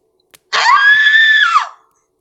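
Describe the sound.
A single loud, piercing shriek of terror from a man, held for about a second with a slight rise in pitch before it drops off at the end, with no talking.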